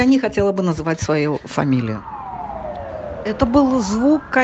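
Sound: ambulance sirens wailing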